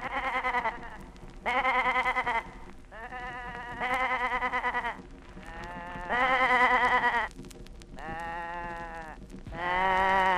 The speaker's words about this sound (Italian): Belati dispettosi delle caprette irrequiete, i pazienti belati delle pecore in retroguardia.